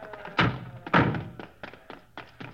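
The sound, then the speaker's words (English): The stuck door of a crashed car being forced open to get the man inside out: two heavy thunks in quick succession, then four lighter knocks and rattles at irregular intervals. No one speaks. “Hey, that door's stuck.”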